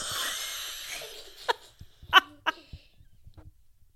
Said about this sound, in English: Sounds like a wet cough. You sure you don't have COVID?